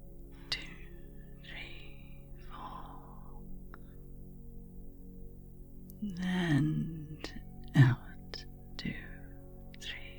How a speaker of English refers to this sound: 2, 3, 4. Good job. You've got it. Keep up the breathing. Yeah, it's a problem if you stop.